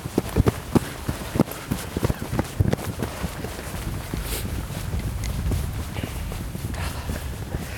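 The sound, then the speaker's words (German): Quick footsteps of people running outdoors as a light drizzle begins pound along at a running pace for a few seconds, then fade into a steady rushing noise like wind or rain as the steps become harder to pick out. “wir müssen rennen jetzt.”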